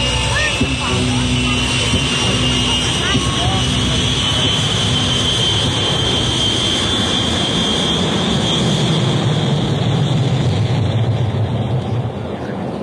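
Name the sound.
airplane engine running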